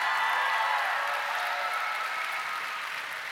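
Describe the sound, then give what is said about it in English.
A crowd claps steadily to give God praise for 91 people who trusted Jesus Christ, a dense, continuous wash of hand claps with no voices over it, fading slightly toward the end. “And whenever we clap for that, we give God praise, because listen, I know that I have nothing to bring except for Jesus Christ and him crucified.”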